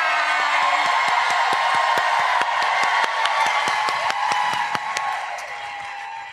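A crowd applauds and cheers steadily for several seconds, dense clapping with sharp individual claps standing out and a few whoops rising above the sustained roar.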